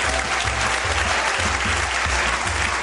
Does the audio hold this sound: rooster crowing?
no